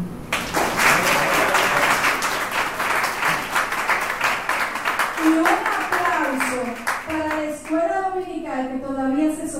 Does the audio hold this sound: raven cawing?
no